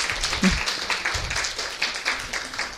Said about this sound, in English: Will the committee please all raise their hands? So they've been working tirelessly for many, many, many, many, many, many weeks. Let's give a round of applause to them. Thank you.